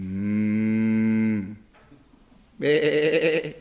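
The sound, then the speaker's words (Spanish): A long, low cow moo rings out, followed after a brief pause by a shorter, wavering sheep bleat. Both animal calls are loud and clear, with no talking. “pues qué balido de ovejas y bramido de vacas es este que yo oigo con mis oídos.”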